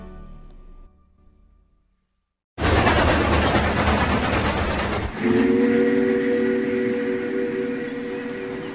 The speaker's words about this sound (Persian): پس لوکوموتیو بخار انگلیسی اینه.